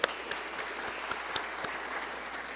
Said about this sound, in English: A great big round of applause for our Sunshiners.